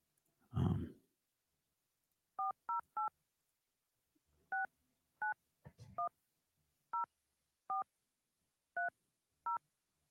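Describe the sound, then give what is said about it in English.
Ten short phone keypad dialing tones beep clearly in uneven clusters as someone dials a person's phone number, with a couple of low thumps of handling noise between them and no voices. “Let me see if I can find his number.”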